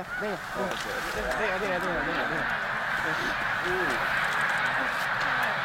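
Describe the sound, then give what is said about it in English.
Tens of thousands of snow geese take flight at once from a lake at sunrise under an overcast sky at Willow Point; countless overlapping honking calls form a dense, continuous clamor with a rushing wash of wingbeats underneath. “Tens of thousands of snow geese take flight at once.”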